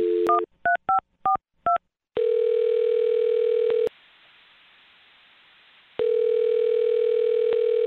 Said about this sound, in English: All right, I'm going to dial his phone number right now and see if we can figure it out for you. Here we go.